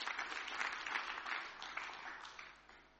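An audience at a church service claps in dense, sustained applause, a steady crackle of many hands that stays fairly strong before gradually thinning and fading toward the end.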